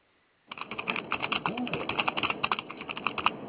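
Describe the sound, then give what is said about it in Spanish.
Rapid, irregular clicking of fingers typing on a computer keyboard, starting abruptly after a brief silence and continuing steadily, fairly loud, with a faint murmur underneath. “Con un teclado.”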